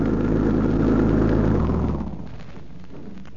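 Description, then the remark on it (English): A car engine rumbles loudly with a steady low drone, then eases off after a couple of seconds to a quieter idle as the vehicle pulls up. “I think they're coming now. Doesn't that sound like their car?”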